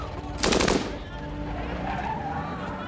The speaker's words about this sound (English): The two gunmen calmly return to their idling van. Whilst walking, they fire 86 rounds of ammunition indiscriminately at passersby.